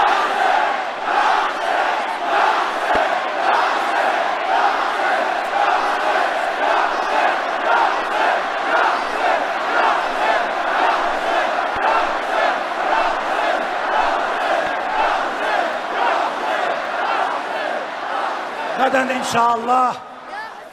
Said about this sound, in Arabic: وأننا رجال ونساء الميدان الذي يبقى يصرخ ويصرخ يا حسين.